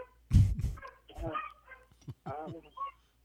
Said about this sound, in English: The dogs with the barking.